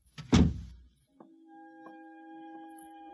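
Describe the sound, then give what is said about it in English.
A kitchen door shuts with one heavy thud that quickly fades, followed by a steady low electrical hum and a few faint clicks. “Close the kitchen door behind you.”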